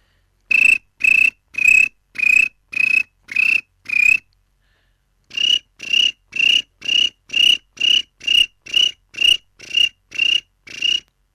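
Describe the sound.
A person imitates a cricket's chirping with their voice as a sound effect, like a Foley recording session, doing one cricket and then another: a run of seven shrill, evenly spaced chirps, a brief pause, then a longer, steadier series of about a dozen more, fairly loud.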